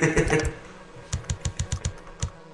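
Typing on a computer keyboard: a quick burst of keystrokes, then a steady run of about eight crisp, evenly spaced key taps, with no one talking.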